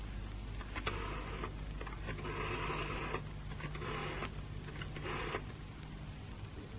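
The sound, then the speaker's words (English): A telephone being dialed: four short mechanical whirring bursts separated by brief pauses, over a steady low hum, with no one speaking. “You can phone her now at your flat. Give me that phone.”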